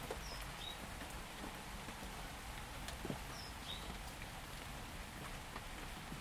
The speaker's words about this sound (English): But the rain's just coming straight down. It's not like gusting or driving or that horrible way. It's actually very pleasant to listen to the rain.